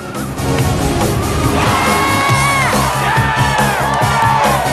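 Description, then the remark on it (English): A large crowd in an arena cheers and whoops loudly and continuously as a car whizzes around the arena, with excited shouts rising above the roar and a steady rhythmic thumping beneath, like a packed stadium. “Charisma and the crowd cheer as she whizzes around the arena.”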